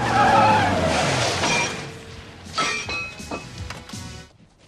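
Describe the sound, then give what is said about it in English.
Tires screech loudly as a pizza delivery man's car skids to a stop, followed by several sharp clattering, clinking impacts like objects knocked over and breaking, with no talking. “Jumping out of his car and pausing to pick up the statue in the driveway for a second time, the pizza delivery man finds a note on the front door directing him to the back.”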